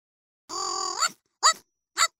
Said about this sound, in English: What's that? Oh, that's my pet dog. That doesn't sound like a dog. Yeah, I know. It's my robot dog.